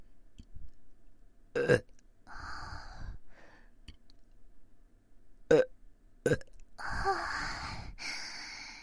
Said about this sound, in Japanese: 今日はいっぱいゲップ出ちゃいますよ。お耳さんいっぱい気持ちよくなってもらえたらいいな。私もなんかゲップで気持ちよくなってきました。もっともっとね、大きいゲップ出したいな。